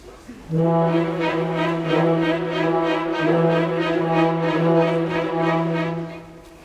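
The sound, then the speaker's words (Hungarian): Orchestral brass horns, added to the second violins, hold a long, steady low note at full volume, entering after a brief quiet moment and sustaining unbroken to the end with a rich, buzzy tone. “Tegyük hozzá a kürtöket.”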